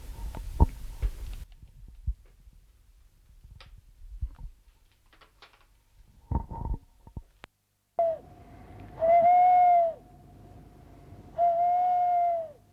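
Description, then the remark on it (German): Two long, steady owl hoots sound out clearly after a few scattered clicks and knocks, each hoot held for about a second with a low, hollow tone over a faint background hum. “Den alten Gefängnisturm, wo die Eulen wohnten.”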